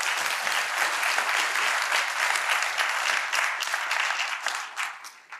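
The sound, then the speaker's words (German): An audience at an event claps for themselves steadily for several seconds, a dense, even wash of many hands that stays loud throughout and then begins to thin out and fade at the end. “Ein Applaus für euch.”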